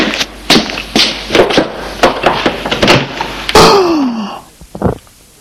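A run of sharp knocking or stepping thumps, then a door swings open with a loud creak that slides downward in pitch, ending with a dull thud.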